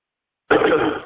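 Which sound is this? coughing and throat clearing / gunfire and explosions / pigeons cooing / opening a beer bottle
coughing and throat clearing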